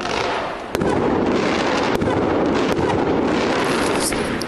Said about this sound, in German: So, die Fans von Aue haben ein kleines Feuerwerk draußen aufgebaut, um ihre Mannschaft zu unterstützen.